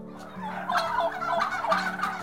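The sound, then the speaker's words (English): A wild turkey gobbles in a rapid, rattling burst of throaty warbles, repeated in loud waves over a couple of seconds with no one talking. “And turkeys can do more than just gobble.”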